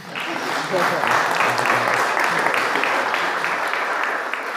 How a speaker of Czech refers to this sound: Super. Potlesk lidi, jo?